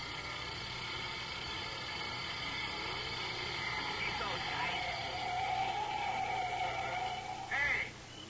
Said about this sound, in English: That's a tank truck, all right.